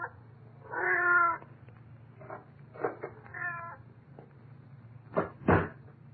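A cat meows loudly, a long drawn-out cry followed by a few shorter meows, then two sharp thumps like a cupboard door banging. No one speaks.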